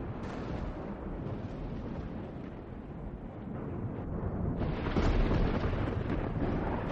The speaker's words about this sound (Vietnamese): Bỗng nhiên, một đạo tia sét từ trên không trung đánh thẳng xuống bên dưới. Tia sét vô cùng cuồng bạo, trực tiếp bổ tan tành căn phòng của Giang Thiếu Bạch.